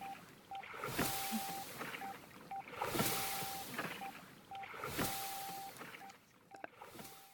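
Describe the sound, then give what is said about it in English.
Mid-pitched electronic rowing metronome beeps, marking the parts and timing of the rowing cycle, repeat in an uneven three-beep cycle, short and long tones alternating, over rhythmic whooshing water and wind noise that swells roughly every two seconds. “Okay, so it's three beeps and uneven...”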